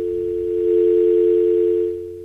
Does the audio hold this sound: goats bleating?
no